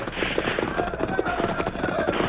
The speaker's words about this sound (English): As the Lone Ranger and Tonto urged their horses at top speed toward the stalled railroad train, the sound of gunfire increased.